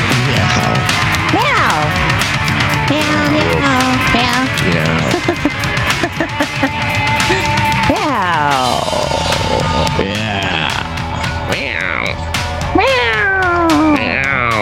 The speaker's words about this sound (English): Meow, meow, meow.